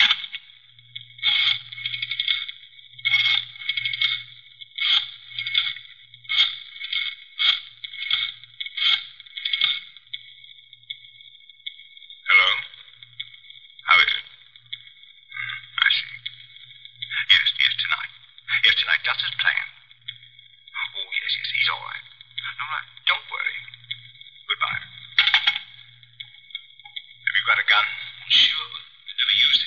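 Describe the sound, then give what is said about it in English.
Someone places a telephone call: coins clink into a pay phone, then a tinny, muffled voice crackles through the receiver in quick, steady bursts over a faint low hum. “I better phone the place.”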